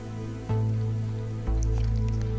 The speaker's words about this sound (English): Cat is licking the mic. She's licking my fingers here.